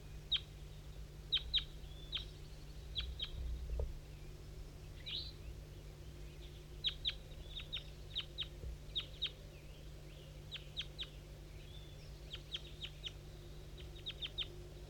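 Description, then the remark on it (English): An adult bird and a couple of juvenile birds calling from the southwest in short, high chirps that come in quick clusters throughout, fairly faint, over a steady low background hum with no talking. “Five, three, and a couple juveniles chiming in a little bit, but I think the wild bird went right on past.”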